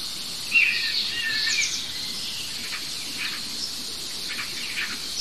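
A common starling gives a single drawn-out, descending mewing cry imitating a common buzzard, over a steady high insect hiss and faint bird chirps, with no talking.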